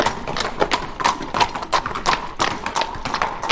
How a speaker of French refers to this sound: C'était un dimanche d'automne, le 11 novembre 1630. Je regardais tomber les feuilles lorsque le carrosse du roi est entré dans la cour.